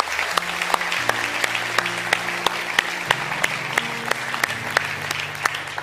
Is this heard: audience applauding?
yes